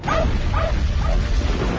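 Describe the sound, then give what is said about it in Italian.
A dog barks three times at an even, steady pace in the trailer for the film Bolt, the short sharp barks standing out over a loud, continuous low rumble of background noise. “Prendete quel cane!”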